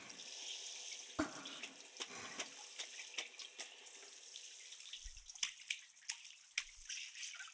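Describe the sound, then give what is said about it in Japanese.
Running tap water streams steadily with a hissing splash, broken by irregular soft splats and drips as the flow hits a surface, rinsing off the remaining foam, moderately loud, with no one speaking. “泡の残りがないように。”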